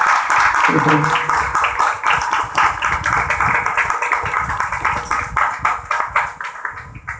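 A crowd at a satsang gathering in Gaya claps steadily for several seconds, a dense, loud wash of many hands with a brief voice-like tone at the start, the applause thinning slightly toward the end.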